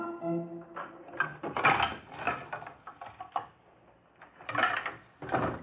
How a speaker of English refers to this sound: What's making all that racket, Dippy Dwarf? Oh, good morning, Barbecue Pig. The noise? Oh, they're just moving a piano up to the frog's room.